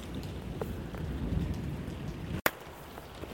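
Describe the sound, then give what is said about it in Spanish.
A heavy downpour pours steadily, heard from the street under a small roof, a dense hiss of rain drumming on surfaces, interrupted by a brief sharp cut partway through before the rain continues. No voices. “Y dado que pasó lo que tuvo que pasar, pues nos llovió, tronó y cayó un aguacero como estilo Ciudad Monstruo.”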